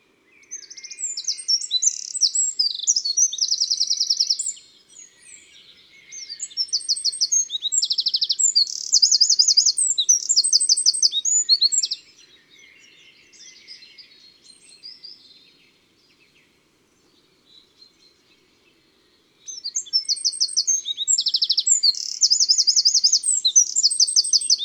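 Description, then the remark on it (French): A Eurasian wren sings loud, high-pitched phrases of rapid trills and twitters, three long bursts separated by short pauses, with no voices present. “Les cris du troglodyte sont des tec, tec, tec, tec, tec, rapides et sonores, un peu comme un cliquet.”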